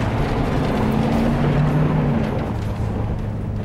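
A heavy truck engine rumbles steadily, a deep, constant drone with a faint rising whine as the truck drives along, with no voices over it.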